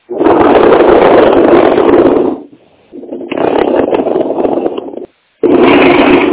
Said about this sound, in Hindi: सबसे पहली चीज जो मैं आपको सुना रहा हूँ वो है चीयर स्काइप की आवाज, यानी कुर्सियों को खींचने एक जगह से दूसरे जगह करने की आवाज। कुर्सियों को खींचा जाता है, कैसे करते हैं देखिए, प्लास्टिक चेयर से हम प्रैक्टिकल कर रहे हैं, ध्यान दीजिएगा।